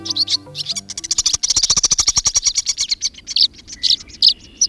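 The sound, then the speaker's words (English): A flock of dozens of birds swirls overhead, swooping and gliding in pursuit of insects, calling in a dense stream of rapid, high chirps and twitters overlapping continuously. Near the start, a brief run of low, stepped tones sounds underneath. “Swirling overhead, dozens of birds swoop and glide in pursuit of insects.”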